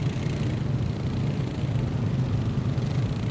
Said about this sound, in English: he decided to take the largest, most inefficient, gas-guzzling ATV to noise up an already ear-splitting, noise-polluter region of Canada.